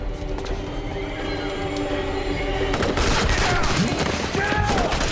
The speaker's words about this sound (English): Jack pushes Hassan down behind a pile of pallets as all around them agents fall in the hail of high-velocity fire from the army unit.